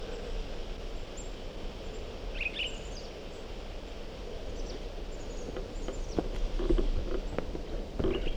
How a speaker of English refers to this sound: Different bird.